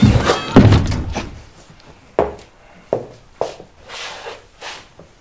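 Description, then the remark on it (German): A school director's office door slams shut with a loud, heavy bang, followed by several fainter knocks and thuds as it settles, with some rustling movement. “Knallt der Direktor der Schule schlecht gelaunt seine Bürotür hinter sich zu.”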